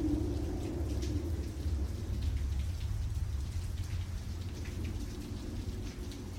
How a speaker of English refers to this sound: It's miserable outside, and the rain pelts you from the side. You can hardly see through squinted eyes